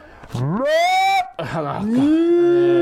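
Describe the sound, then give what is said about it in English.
A human voice imitates a cow, giving two drawn-out, loud moos with rising then sustained pitch and a rough, harmonic-rich tone, separated by a brief break. “We're doing cow noises.”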